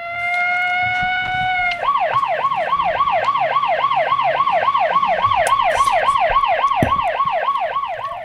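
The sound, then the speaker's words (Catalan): A police siren blares loud as police arrive, starting with a steady held wail, then switching to a rapid, repeating yelp that warbles up and down without pause. “Una estona després van arribar els policies.”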